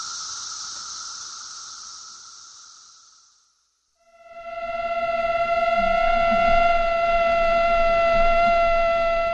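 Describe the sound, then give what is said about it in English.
Male and female mosquitoes beating their wings together in harmony while mating make a loud, steady, whining drone rich in overtones, almost siren-like. It comes in after a softer buzzing hiss fades to silence. No one speaks. “Male and female mosquitoes beating their wings together in harmony while mating.”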